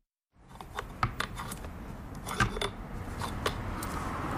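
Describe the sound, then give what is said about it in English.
Muffled street traffic rumbles steadily inside a quiet bridal store, muffled by rows of wedding dresses, a low, constant wash of sound dotted with scattered faint clicks and taps. No one speaks. “It's quiet inside the bridal store, just the sound of traffic outside, muffled by rows of wedding dresses.”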